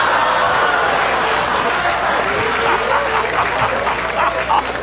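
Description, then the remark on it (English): A dog barks in a quick run of short, high-pitched yips toward the end, played as a clue in an animal sounds category on a quiz show, set against a steady wash of crowd noise and overlapping voices. “This is the sound a doggy makes.”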